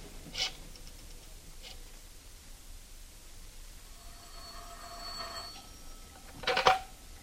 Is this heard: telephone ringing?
yes